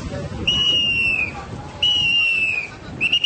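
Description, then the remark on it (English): A traffic policeman's whistle blows in long, shrill blasts, two sustained ones and a third starting, with a slight descending pitch, loud over a low rumble of street noise, as he directs traffic at Karga Lake on the outskirts of Kabul, Afghanistan. “Out here, a policeman directs traffic carrying a whistle, not an AK-47.”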